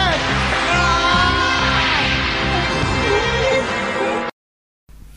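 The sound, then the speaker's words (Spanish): Goku from Dragon Ball Z lets out a loud, strained battle scream that holds steadily for about four seconds, with a pulsing low rumble beneath it, before cutting off abruptly into silence. “Son épicos los gritos de Goku.”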